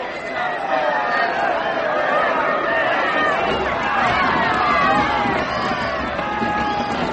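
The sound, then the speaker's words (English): A large crowd gathered in England for the execution of Raleigh fills the scene with a steady, loud roar of overlapping voices, shouts and jeers blending into a restless din that holds throughout without pause. “A good crowd, eh, priest? And happy to see me.”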